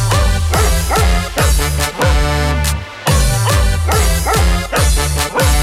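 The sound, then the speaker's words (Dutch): A Keeshond dog barks loudly in a steady, repeated rhythm, the barks set against a driving musical backing like part of a song's beat, with a brief pause midway. “Mijn hond, dat is een Keeshond.”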